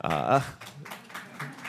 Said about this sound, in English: thanks, both of you, for clapping.